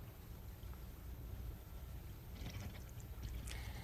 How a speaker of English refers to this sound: See that? I'm going to put some water in here. And now I'll pull the plug on the drain. See it going down?